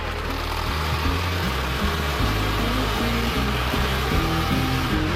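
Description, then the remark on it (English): A loud, steady roar of eight two-stroke lawnmower-type engines running together on a machine about to lift off, with pitch shifting in uneven steps as they rev throughout. “He's about to lift off. It's the thing is like 8 lawnmower engines.”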